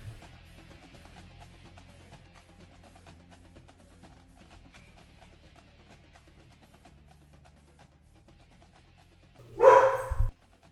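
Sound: dogs barking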